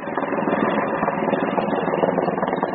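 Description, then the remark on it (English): A steady, dense engine roar of a helicopter flying in before dawn from the Sierra Nevada in California, carrying firefighters and coolers of mountain yellow-legged frog tadpoles, holding an even loudness throughout with a faint fluttering texture and no voices. “She gets up before dawn to meet a helicopter that's flying in from the Sierra Nevada.”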